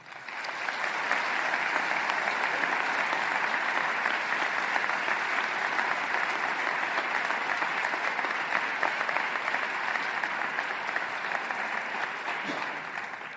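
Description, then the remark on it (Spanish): At a Semana Santa (Holy Week) address, a large audience applauds the people to whom the cofrades are indebted. The applause is a steady, dense, even wash of clapping that holds at a constant loud level for over thirteen seconds, with no pause and no voices rising above it. “Por eso, les pido a todos los presentes que pongan ahora en su pensamiento y en su corazón a todas esas personas a las que los cofrades y nuestra Semana Santa debemos tanto y les brindamos el aplauso que se merecen.”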